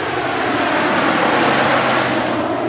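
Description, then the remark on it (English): A massive C-130 Hercules air tanker, following a small plane, roars steadily overhead as it approaches a landing strip, a loud, dense propeller engine drone with a low hum beneath it, sustained throughout with no voices. “Back on the landing strip, two planes, a small one followed by a massive C-130 Hercules air tanker, approach where I'm standing.”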